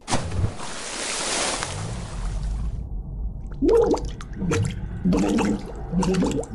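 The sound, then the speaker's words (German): A rush of pouring water gives way to a series of irregular splashes and gurgling plops, like someone moving about in a filled bathtub. No one speaks. “Okay, ich übe erstmal im Waschbecken. Okay, soweit, so gut. Ich glaube, der nächste Schritt ist die Badewanne.”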